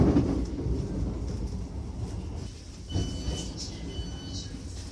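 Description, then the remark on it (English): A train rolls into Gatwick Airport station with a steady, heavy low rumble, thin metallic brake squeals rising in the second half as it slows. “will shortly be arriving at Gatwick Airport. Change here for other national rail services.”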